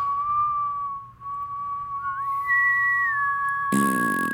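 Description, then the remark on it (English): Two people whistle together in harmony, one holding a steady note while the other slides up to a higher one, ending with a brief burst of noise. “I can't whistle. I harmonized with you.”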